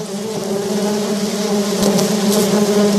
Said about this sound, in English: What a buzz. The closer we get to the gardens, the louder the sound of bees. Look at the flowers.